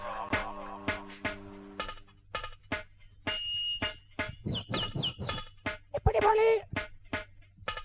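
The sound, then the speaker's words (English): A parrot in a recording studio squawks and chirps in quick, shrill bursts over a steady low hum, ending in a louder, harsher squawk. “Shout to the parrot in the studio.”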